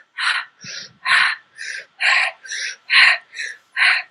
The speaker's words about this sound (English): So the accents on one or the other, you can do the fire. The classic yoga thing is the breath of fire. You just breathe through your nose.